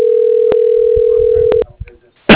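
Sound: telephone dial tone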